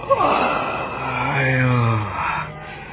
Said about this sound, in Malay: Ia menarik nafas dalam-dalam.